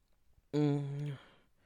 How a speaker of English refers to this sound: Was that a yawn?